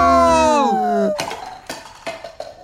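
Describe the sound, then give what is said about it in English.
A gliding, falling tone gives way to a glass artifact being knocked onto the ground with a hard clatter as a crowd rushes in, then three or four lighter bouncing knocks that fade, with no shattering. “It should have broken when it was knocked onto the ground, when everyone rushed in.”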